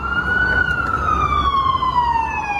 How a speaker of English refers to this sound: That one was an ambulance. That sounded exactly the same. Ambo? It's the same. Oh, it's slightly different.